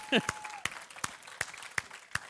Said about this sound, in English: High Ridge family, would you give them a big warm round of applause and tell them, we wish you were here.